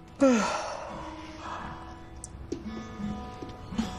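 woman yawning

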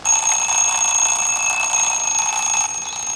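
alarm clock ringing

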